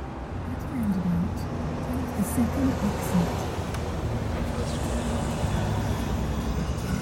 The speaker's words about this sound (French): C'est un après-midi d'automne. J'ai loué une voiture à l'aéroport de Vienne et je roule en direction de la frontière tchèque. Ma destination, Hagenberg. Il pleut à verse.